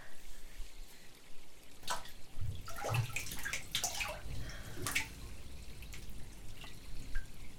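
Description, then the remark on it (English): Someone steps into water: a few soft, irregular sloshes and splashes, followed by scattered drips trickling back down. Fairly quiet throughout, with no one speaking. “All right, if you insist, I'll take off my robe and enter the water.”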